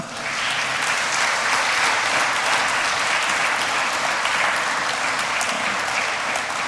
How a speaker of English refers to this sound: I was going to have everybody applaud, but they already did. So one more time.